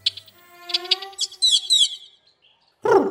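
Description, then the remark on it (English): Carib grackle calls while it eats dog food: a run of bright, squeaky whistles and harsh chattering notes, followed by a short pause and then one loud, raspy squawk. “This carob grackle is giving the other birds a tutorial on how to eat dog food.”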